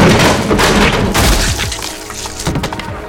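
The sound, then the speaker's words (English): Loud bursts of gunfire crack out in a rapid cluster, with heavy booming impacts that fade into a rumbling tail, followed by a couple of sharper blasts near the end. “The 12 technicians and 6 KGB officers in the vast computer room spun around with a start at the gunfire.”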